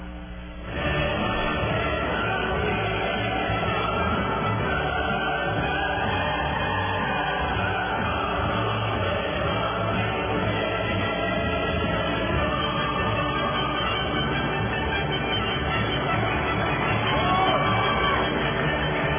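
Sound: crowd applause and cheering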